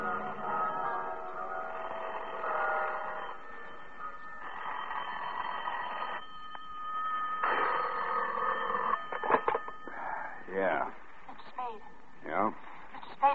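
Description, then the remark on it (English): Bells ring in a Buddhist temple built on top of the Mark Hopkins, with sustained, shimmering tones over a muffled, noisy background for several seconds, then brief bursts of voices break in near the end. “That was when the bells started ringing in the Buddhist temple that had been built on top of the Mark Hopkins.”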